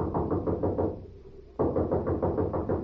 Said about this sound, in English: Here's a knock that ought to bring out the militia.